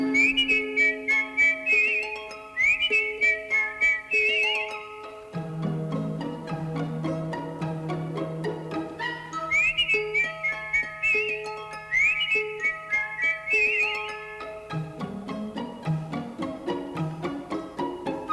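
A person whistles a bright, bouncy tune in clear phrases over light orchestral accompaniment, the melody darting up and down at a steady, cheerful pace.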